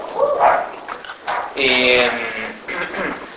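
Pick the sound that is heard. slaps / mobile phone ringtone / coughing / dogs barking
dogs barking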